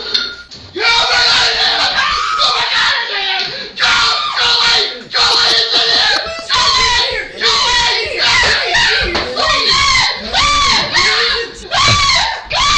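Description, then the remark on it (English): A person screams and yells in terror, loud, in a near-continuous string of anguished shrieks broken by brief gasps for about thirteen seconds. “I know a lot of yelling in the soundtrack today, but that's all I have for you today.”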